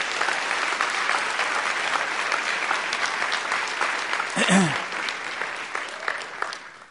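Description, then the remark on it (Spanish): An audience applauds God steadily for several seconds, a dense wash of clapping with a brief voice rising out of it midway. “Amén, den un aplauso a Dios, que Él se lo merece.”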